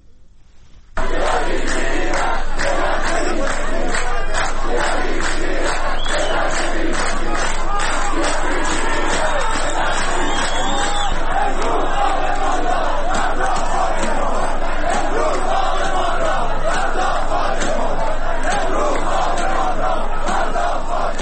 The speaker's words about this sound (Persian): روز یکشنبه هم جمعی از مردم چهارمحاله بختیاری با برگزاری تجمع اعتراضی توقف پروژه های انتقال آب از این استان به استان های کویری برای مصارف غیر شرب مخالفت کردن و گفتن که اجرای این پروژه ها تبعات زیست محیطی زیادی دارد. صدای بخشی از معترضان رو بشنویم.